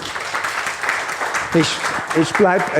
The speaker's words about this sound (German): Ein Applaus noch.